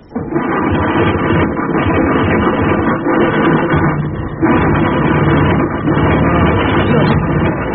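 A car engine runs steadily at a loud, even drone for the whole stretch while the car stays still, its low rumbling tone holding constant apart from a brief dip midway.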